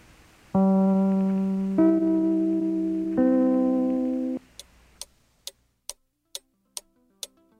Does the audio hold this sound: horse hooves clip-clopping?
no